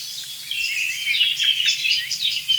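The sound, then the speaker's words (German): A song thrush sings a continuous run of bright, high chirping phrases, with rising and falling notes repeated in quick succession, over a faint low rumble in the background. “Das ist eine wirklich leitende Singdrossel, würde ich sagen.”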